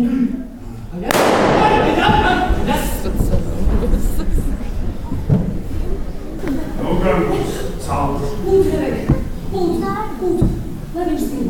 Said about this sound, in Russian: Хотя охотник решил припугнуть его, а заодно и зрителей громким выстрелом.